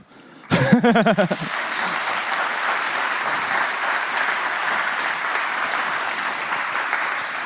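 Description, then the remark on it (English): Sustained audience applause after a speaker's presentation on RTSP brute-forcing tools, a dense steady patter of many hands clapping, opening with a brief loud burst of voice-like tones before settling into continuous clapping for several seconds. “So big applause again”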